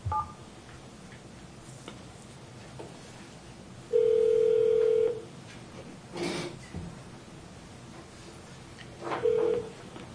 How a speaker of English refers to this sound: He's calling the Western Commissioner in. He's going to be on the phone until he gets here.